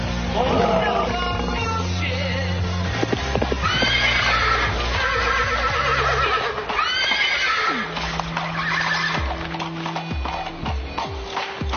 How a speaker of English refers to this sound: Oh, my God. There are horses in the street. It's like 1300 all over again. What's going on?